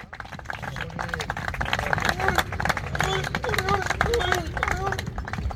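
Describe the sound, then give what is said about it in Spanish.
Football teammates clap in quick, uneven bursts and joke to welcome captain Iker Muniain back to full-group training on the pitch at Lezama, while several voices call out and chatter over the applause, the clapping steady and fairly loud throughout. “Aplausos, bromas, vamos Muni, el capitán que vuelve a estar en dinámica de equipo, dinámica de grupo.”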